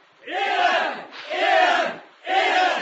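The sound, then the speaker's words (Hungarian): A crowd of porters, told to shout, cheers as a party arrives, in three loud, sustained surges of roughly a second each, with brief lulls between them as the massed voices swell and fall. “Isten neki, hanem aztán ordítsanak! Jönnek!”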